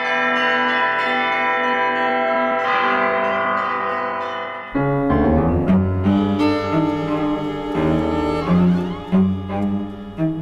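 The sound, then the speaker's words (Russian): Church bells rung by Alexander Zhikharev, bell ringer of the Kolomenskoye museum, ring out in a rich, sustained peal, with overlapping tones humming steadily before a louder burst of several bells striking together in a lively, uneven rhythm. No voices are heard. “Александра Жихарева, звонаря музея Коломенское, колокольного мастера, изобретателя, записала Тамара Ленкова.”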